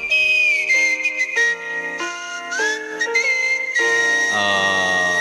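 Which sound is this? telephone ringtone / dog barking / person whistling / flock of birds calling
person whistling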